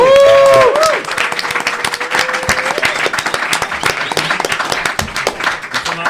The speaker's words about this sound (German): So Leute, und jetzt noch einmal Applaus für alle Scheichs. Und Scheichinnen. Ja, komm, bring Erde. Und Applaus für ….